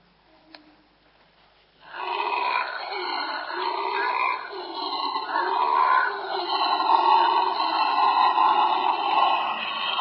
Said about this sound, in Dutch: Een leeuw. Een leeuw. Een zwarte brulaap.